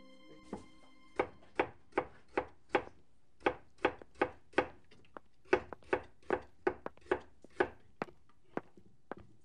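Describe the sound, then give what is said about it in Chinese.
A knife chops vegetables on a cutting board in a steady, slightly uneven rhythm of crisp thuds, about two per second, with no voices. “我刚才切菜的时候，不小心把手划伤了，哎呀，疼死我了！”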